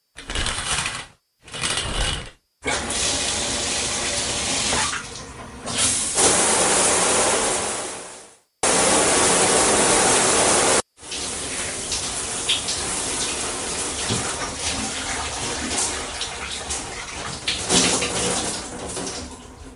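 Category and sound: household object, shower water running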